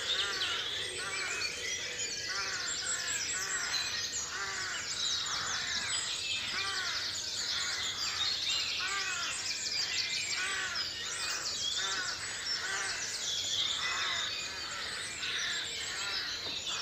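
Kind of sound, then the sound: bird, morning birdsong chorus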